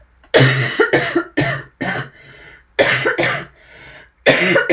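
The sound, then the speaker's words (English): A run of harsh coughs comes in bursts: three quick ones, a pause with a faint wheezy breath, then two more, and a final hacking cough after another breathy gap. “Cough warning.”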